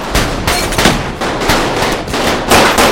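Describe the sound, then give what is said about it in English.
Rapid bursts of gunfire as pirates open fire on Steve, who fires back from behind a doorway; overlapping sharp shots form a dense, loud barrage with no voices. “Other pirates open fire on Steve.”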